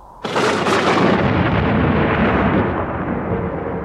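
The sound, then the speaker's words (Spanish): A sudden, loud thunderclap from a gigantic lightning strike during a storm, heard aboard a boat, bursts in and rolls on as a sustained, rumbling crash, slowly easing but still strong at the end. No voices are heard. “Un relámpago gigantesco hace regresar al ya nervioso Mateo a la realidad de la embarcación.”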